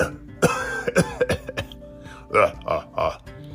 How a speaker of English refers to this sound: Oh, the volcano smoke is making me cough a lot. This is terrible.